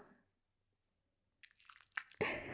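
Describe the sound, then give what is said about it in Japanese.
Wet squishing and squelching of soap being lathered into foam, starting softly in small bursts and building into a louder, dense lather sound at the end. “こうしてね、石鹸を泡立てて”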